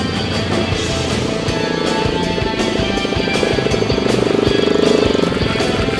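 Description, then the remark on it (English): Loud, continuous roar of racing engines during a team race, a dense droning rumble with a buzzing, slightly pulsing texture that holds steady and swells a little toward the end, with no voices. “Babs's plan is to drive the first couple of laps without cutting the engine”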